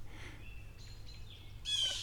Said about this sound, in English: Is he making that little chirp? Not that chirp. That's obviously a blue jay.